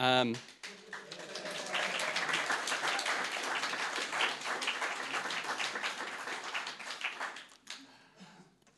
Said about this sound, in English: Thanks, guys. It's good to get the applause out of the way at the beginning because we don't know how this is going to go.